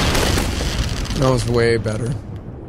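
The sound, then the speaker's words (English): Someone vocally imitates fireworks: a rough, hissing burst followed by a rising, whistly voiced squeal, loud, lasting a couple of seconds. “That's my fireworks sound effect.”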